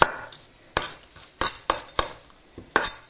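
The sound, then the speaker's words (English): A knife chops peeled onions on a cutting board, with around seven sharp, uneven taps. There is no talking. “All right, I'm just peeling these onions and chopping them up.”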